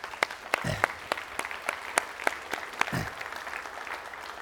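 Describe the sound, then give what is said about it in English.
A small audience claps in a brief round of applause, with sharp, scattered claps over a steady soft patter and no voices. A couple of low thumps sound partway through. “And so let's give him a round of applause.”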